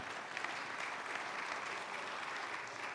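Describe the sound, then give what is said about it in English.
Steady applause from an audience fills the whole stretch, a dense even wash of many hands clapping at a constant, fairly strong level with no voices standing out. “Give them a round of applause, will you?”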